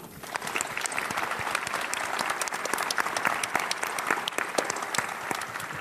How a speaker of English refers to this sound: We often do this on the podcast, because we don't usually have an audience. But I think both gentlemen deserve a round of applause.